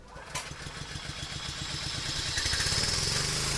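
A small compressor engine is pull-started with a strong arm pull and catches, settling into a steady, loud chugging run with a regular rhythmic pulse that grows slightly louder and higher as it keeps running.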